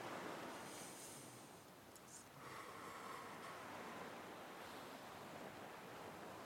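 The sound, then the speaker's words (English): Steady ocean surf washes continuously, a broad hissing rush of waves with a soft swell midway through. No voices, just the constant roar of the sea at a moderate, even level. “Listening to me and to this sound on this sea.”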